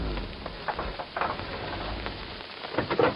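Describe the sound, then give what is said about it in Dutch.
Steady rain pours down in a dense, hissing wash, with scattered louder drops pattering and a low rumble underneath; no voices. “Toen de oude zatkiel enige dagen later het hoofd uit de kuil stak om van de regen te genieten”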